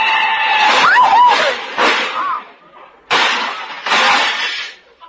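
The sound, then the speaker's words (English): A loud car crash involving a big black touring car, whose fenders are knocked off into the gutter: a sharp impact followed by bursts of shattering, tinkling glass and clattering debris, with a few short high cries or squeals mixed in, then two more crunching bursts of breakage. “My fenders, my shining fenders lying in the gutter.”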